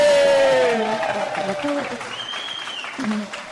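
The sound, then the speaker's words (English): Steady audience applause fills the whole stretch, a dense patter of many hands clapping with a few voices calling out and a brief high whistle partway through. “I can't remember being clapped ever in that same.”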